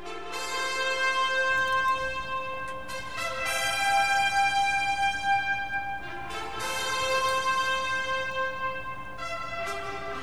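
Orchestral brass fanfare music with bold, sustained chords entering in slow, stately swells, each held before the next entry; loud and full, with no one talking.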